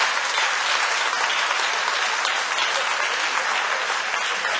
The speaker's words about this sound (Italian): Fate un applauso al Signore, per favore.